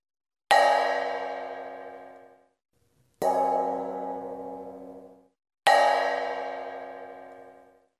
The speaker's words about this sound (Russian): Голос громкий, но не очень приятный, сказала большая сковородка. Послушайте теперь меня. И она зазвонила, как колокол.